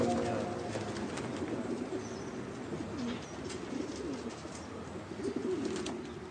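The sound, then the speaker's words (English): Pigeons coo softly and repeatedly in low, throaty murmurs, several birds overlapping in a steady rumble with faint chirps and ambient noise around them. “Oh, I see pigeons.”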